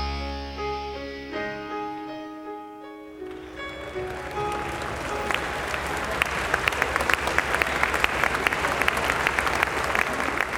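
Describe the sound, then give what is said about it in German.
A few seconds of sustained orchestral music end, and loud, dense applause from a large audience at the Stadttheater Straubing, after a performance of the musical Thomas Alva Edison, takes over, a steady roar of many hands clapping with sharp individual claps standing out. “Langsam verhallt der tosende Applaus im Stadttheater Straubing.”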